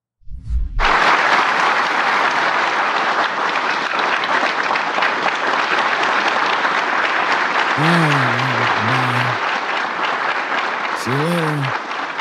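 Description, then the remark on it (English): Sustained, dense audience applause at a Medal of Honor ceremony, clapping and cheering for the Medal of Honor winners as Joe Biden walks out, loud and steady, with a few voices calling out and cheering briefly over the clapping near the end. “Everybody's clapping and cheering for them.”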